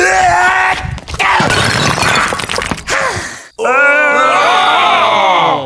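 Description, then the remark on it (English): A loud shattering crash of Bing Crosby's skull headpiece breaking during a Skull Hockey game bursts out and rattles on for a couple of seconds, then breaks off into strained, drawn-out vocal cries that sound like a groan or yell. “has shattered Bing Crosby's headpiece!”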